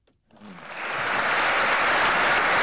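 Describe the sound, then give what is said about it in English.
Applause from a large audience for Vladimir Putin speaking to big investors swells quickly from silence into a sustained, dense wash of clapping that stays loud and steady to the end. “Applause is guaranteed whenever Vladimir Putin speaks to big investors.”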